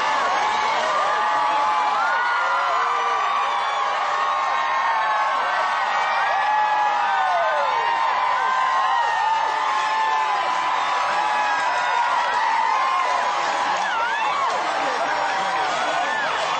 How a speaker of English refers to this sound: We are here today in front of Buckingham Palace, London, United Kingdom, where a massive crowd has gathered to witness the joyful royal wedding procession.